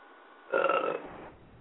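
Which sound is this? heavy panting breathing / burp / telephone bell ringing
burp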